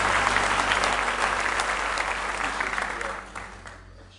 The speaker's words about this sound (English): a great big hand clap of praise this morning.